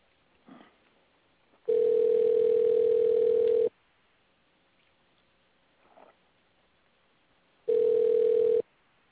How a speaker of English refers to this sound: That's me dialing